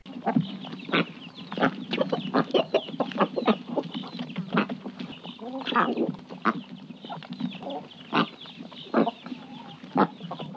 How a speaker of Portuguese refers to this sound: Que bicho é esse? É o pato.